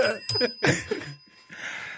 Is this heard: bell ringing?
yes